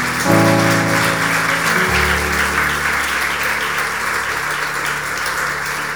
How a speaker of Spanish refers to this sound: ¿Alguien se anima a dar un aplauso al nombre de Jesús?